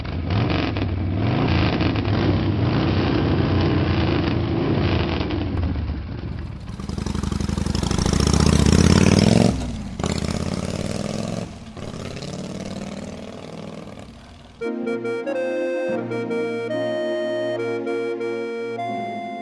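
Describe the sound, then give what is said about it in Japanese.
A motorcycle engine idles with a steady low rumble, then revs up loudly and settles again before music takes over near the end; no one speaks. “その時俺は自分のバイクを持つという思いに取りつかれていたが、それを見つけるのに長くはかからなかった。”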